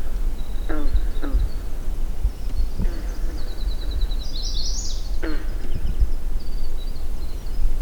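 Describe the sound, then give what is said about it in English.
Several twangy, plucked calls from a chorus of green frogs sound at irregular intervals in a lake cove in Maine's north woods, over a steady low rumble, while thin high bird trills and chirps flicker in the background. “Observe an eagle perched on a tall spruce, and move quietly into a cove to record a jangly chorus of green frogs.”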